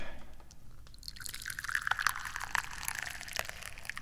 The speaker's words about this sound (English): Here, and let me pour you some tea.